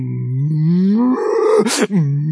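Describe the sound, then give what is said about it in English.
A person gives one long, drawn-out, loud moo imitating a cow, used on a farm to call cows in from the pasture. The pitch slowly rises, then breaks into a breathy rasp before trailing off. “And you try to sound as much like a cow as a cow does. You know how a cow does it?”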